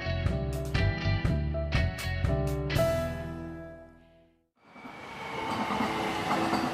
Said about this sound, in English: When the Gold Line train arrives at the Highland Park station between downtown LA and Pasadena, passengers get off in a rapidly gentrifying part of Los Angeles.